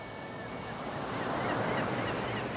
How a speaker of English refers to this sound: The age-old sound of the sea. The same sound folks are hearing right now up around Penobscot Bay and Marblehead, on the Chincoteague Inlet, down in St. Bernard Parish and clean over to the west coast by Guadeloupe and Carmel.